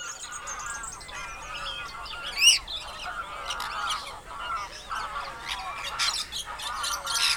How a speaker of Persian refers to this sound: پرنده هایی که روزی آزادانه در باغ گلستان و باغهای اودلاجان و سنگلج میچرخیدن، حالا محصور در پارک برای آدم ها خودنمایی میکنن.